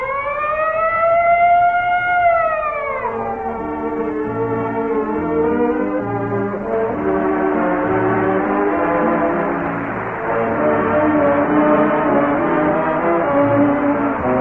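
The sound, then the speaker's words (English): A loud fire siren wails up and down for a few seconds, then gives way to a steady, resonant bell ringing on and on, clear with no voices: the signature of the Texaco Fire Chief radio program on NBC's WEAF, New York. “And remember, whenever you hear the siren and bell, think of Texaco.”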